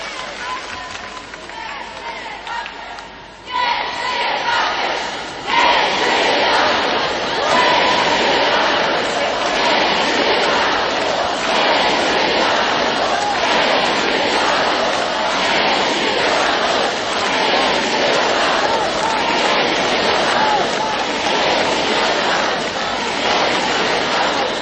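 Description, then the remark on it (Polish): A large crowd of young people shouts and cheers continuously, a dense roar of many voices that swells sharply after a few seconds and stays loud and steady throughout. “Ponieważ tak krzyczą, więc jeszcze raz się zwracam do młodych.”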